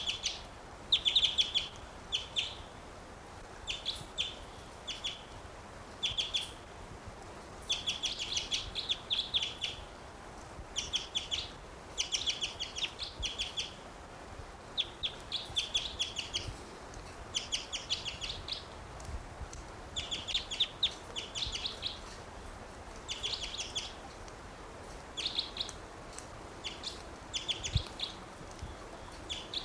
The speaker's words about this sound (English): Wild bird. Wild.